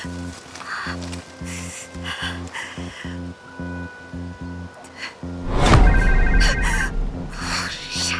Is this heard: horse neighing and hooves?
no